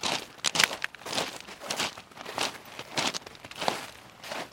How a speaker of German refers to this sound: So, der Bayerische Rundfunk macht weiter, nun mit einem Windschutz, sodass wir nur noch Schneegeräusche hören, unsere Füße auf dem Schnee und Kies und nicht mehr Wind.